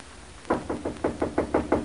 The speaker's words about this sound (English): I'll knock on the door.